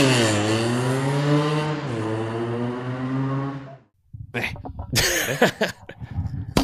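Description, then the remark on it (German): A sustained, wavering tonal hum fades into a brief silence. Then a sharp pop rings out as a bottle is opened one-handed, with a microphone held in the other hand, followed by bursts of hissing and clattering noise. “Geploppt hat's und damit herzlich willkommen.”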